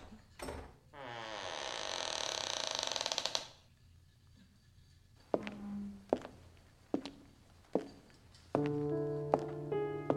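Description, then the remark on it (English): The big, heavy wooden door of the Sunken Harbor School of Painting creaks open with a long, loud groaning strain, followed by several sharp knocks and thuds as it settles, ending in a resonant creak. “Without really knowing why, I suddenly started to walk up the concrete steps and opened the big, heavy wooden door.”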